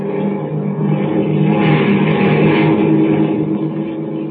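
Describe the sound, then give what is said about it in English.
A loud, steady airplane engine drone hums continuously from a propeller aircraft in flight to San Francisco, swelling slightly in the middle and holding a constant low roar throughout, with no voices. “are even now en route by transport plane to California”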